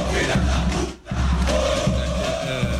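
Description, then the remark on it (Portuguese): A large crowd of São Paulo football fans protests at the front gate of the Morumbi stadium on Praça Roberto Gomes Pedrosa, shouting and chanting loudly and continuously, with a brief dip in the noise before the roar of voices resumes, a sustained chant tone rising above the din. “Vamos acompanhar aí alguns desses protestos feitos ontem na porta.”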